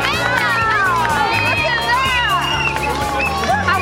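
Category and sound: crowd, crowd cheering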